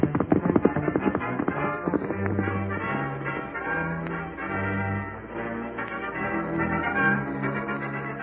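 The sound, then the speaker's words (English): Steady clip-clop of a horse's hooves in a quick, even rhythm, loud, as a rider urges the spavin-legged horse on, with low sustained musical tones droning underneath; no one speaks. “you're carrying me to Carl Faber's place as fast as them spavin legs of yours will get us there”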